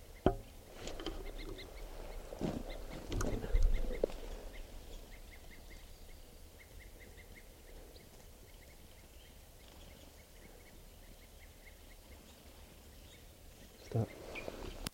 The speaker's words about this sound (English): There's still some wild birds not captured up in the treetops, and they were giving alarm calls, and now they're grading into tubes. And this is the wild birds.